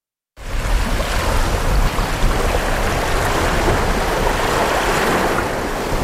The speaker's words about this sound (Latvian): Šajā pludmalē arī veidojās pie dienvidu rietumu vējiem tādi labi viļņi.